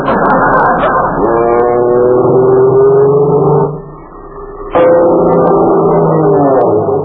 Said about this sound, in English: An airplane! Look, Uncle Steve, a skywriter! A skywriter in California?